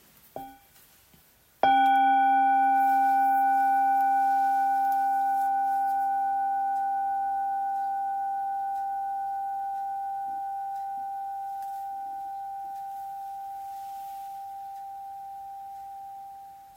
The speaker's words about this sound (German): Ja, jetzt hören wir noch mal eine Glocke und zum letzten Vers.